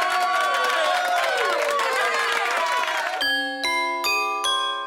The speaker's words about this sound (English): So congratulations, Gammelstad. Yeah! Yeah! Wee! Applause! Yay!